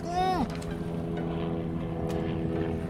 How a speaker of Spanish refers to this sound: ¿Qué hace ese helicóptero aquí?